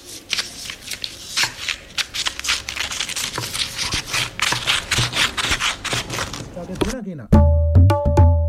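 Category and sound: tool, scissors cutting paper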